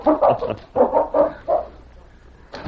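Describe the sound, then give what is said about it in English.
The dogs Whitey and King bark excitedly as they are taken outside to play, in a quick run of four or five loud, yappy barks, then fall quiet briefly before one more bark breaks in at the end. “take the dogs outside and play a while.”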